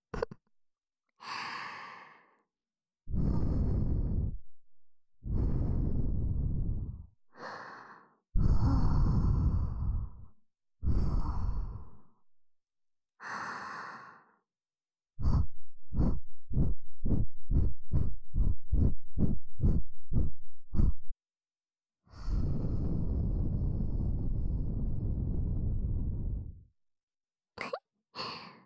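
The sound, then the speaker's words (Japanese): Soft breaths blown into the ear, long airy exhalations repeated several times, then a quick run of short rhythmic puffs before another long, drawn-out breath; no talking. “眉の吐息で耳よくくすぐりの系だよ。”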